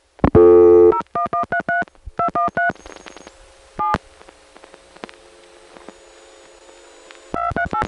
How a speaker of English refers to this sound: See, as long as you're connected to the CDPR, you can hear other customers dialing. There's rotary dialing, there's touch tones, and there's also this mysterious squeal or tone that tends to sort of change pitch.